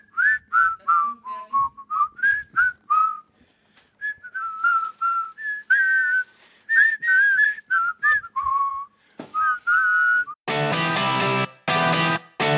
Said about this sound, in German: Was darf man niemals machen hinter der Bühne? Pfeifen!